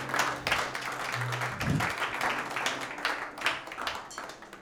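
audience clapping hands

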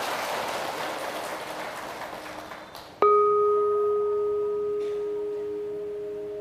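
audience applause

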